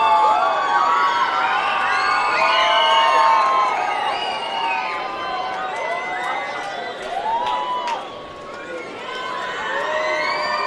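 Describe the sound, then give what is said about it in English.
Baseball fans in the stands yell and cheer continuously while the mascot, Rhubarb the Reindeer, entertains on the third base dugout, with many overlapping high-pitched shouts and whoops rising and falling, a dense, steady roar of voices. “Rainier's mascot, Rhubarb the Reindeer, making the fans yell occasionally while he entertains on the third base dugout.”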